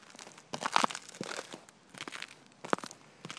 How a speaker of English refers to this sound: But anyway, gotta watch it here because it's kind of slick here. You can probably hear the ice cracking. Bring the phone down a little lower to the ground here.